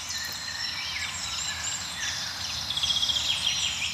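A soft, continuous chorus of blackbirds singing, many overlapping melodic phrases blending into a steady carpet of song from somewhat distant birds overhead, with no voices.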